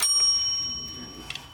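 A single hand bell strike rings out clearly, its bright metallic tone hanging and slowly fading over a second and a half, with no one speaking.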